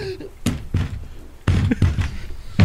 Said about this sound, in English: That was you flopping around in your chair.